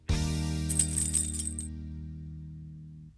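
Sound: keys jingling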